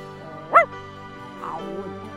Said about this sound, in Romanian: Mormăi cățelul cu nepăsare. Se vedea că de acum nu-i mai pasă de nimica.